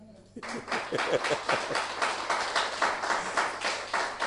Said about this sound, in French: Que quelqu'un applaudisse Jésus.